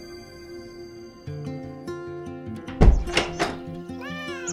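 Several short cat meows rise and fall over soft, steady background music, with a dull thump just before them. The cats are accompanying a woman as she heads out to the barn. The meows are moderately loud, and no one speaks.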